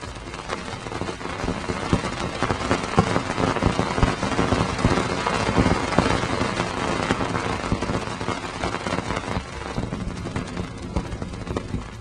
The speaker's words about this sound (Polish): Nawet były dźwięki uderzeń tych małych cząstek, które krążą wokół planety, tworząc właśnie pierścień.